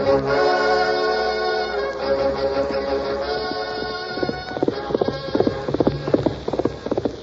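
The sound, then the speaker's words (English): Rapid, rhythmic hoofbeats of a horse being pushed hard by its rider Birdwell at night in moonlight come in partway through, growing loud over a sustained musical background, with no one speaking. “Looked like Birdwell pushing his horse plenty hard.”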